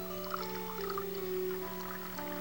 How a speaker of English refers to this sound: Charlie pours a cup of coffee.